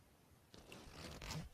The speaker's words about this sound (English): Can you get the zip for me again?